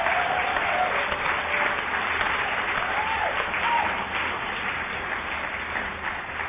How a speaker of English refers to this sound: I'd like to take this time for all of us to recognize the founder of our program, Roseanne. So let's give her a round of applause she can hear in her home.